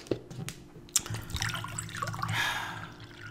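A short stream of water pours into a glass, gurgling and trickling with a rising pitch, preceded by a couple of small clinks and drips, fairly quiet.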